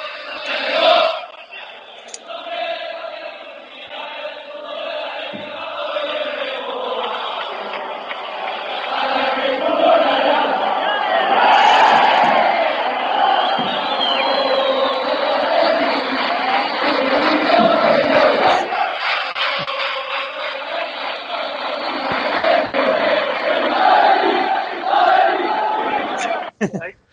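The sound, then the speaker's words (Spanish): A large crowd of football fans chants in unison, a loud, continuous rhythmic roar of many voices that swells and sustains for nearly half a minute, with no individual speech standing out. “Ese es parte del cántico que te dicen.”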